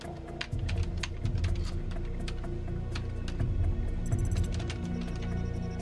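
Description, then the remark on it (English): Rapid, steady typing on a computer keyboard as a username and password are entered into a mainframe computer in a basement office, with many quick clicks running throughout over a constant low background hum. No one speaks. “Before typing in her username and pass, she looks rather fearfully over her shoulder.”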